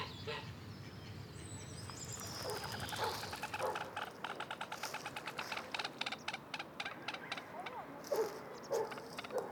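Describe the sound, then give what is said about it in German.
A busy flock of ducks and geese at a lake, with rapid overlapping quacks, honks and chatter that swell after the first couple of seconds, mixed with higher bird calls over steady outdoor background noise. “Wir hören Enten, Gänse und Vögel.”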